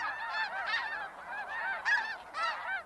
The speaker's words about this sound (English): A flock of geese wings across the sky in perfect V-shaped formation. It's one of the most enduring images of migration.